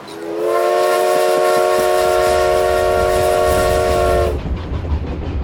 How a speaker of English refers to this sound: Once more, Duff and Falcon rode a train. But this time, their trip would be a short one.